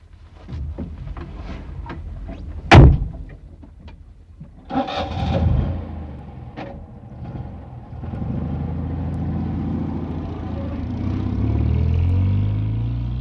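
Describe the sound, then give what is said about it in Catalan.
A car door slams shut with a sharp thud, then an engine cranks and starts, settling into a steady low rumble that swells as the car pulls away. No one speaks. “Si surts de Barcelona, agafa el cotxe.”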